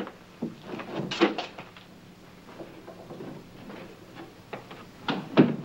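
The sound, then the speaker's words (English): A bathroom door is slowly eased open with a series of soft clicks, knocks and rattles, fairly quiet, ending in a couple of sharper bumps; no one speaks. “MacReady slowly opens the bathroom door and steps out into the hallway”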